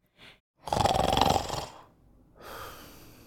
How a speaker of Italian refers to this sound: Poi, soddisfatto, torna a letto e inizia a russare.